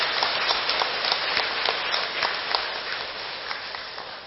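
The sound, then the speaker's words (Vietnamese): A crowd applauds steadily at a Vietnamese Teachers' Day celebration, dense overlapping claps forming a continuous wash of sound with scattered sharper individual claps, sustained at an even level throughout. “cho một tràng vỗ tay thật lớn để tán dương chung.”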